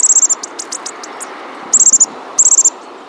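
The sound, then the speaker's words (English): Common bushtits chatter in high, tinkling notes as they forage through the trees: quick bursts of four or five clicking chips, with scattered single twitters between, over a soft background hiss. “The common bush tit's nest is so safe and warm, the adults need only spend 40% of daylight hours incubating the eggs, leaving the parents time to forage and chatter through the trees sounding like tiny, clinking castanets.”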